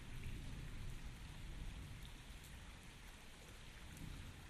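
Steady rain pours down in a dense, continuous hiss, with heavier low rumbling beneath it and scattered drops tapping on a surface, no voices present.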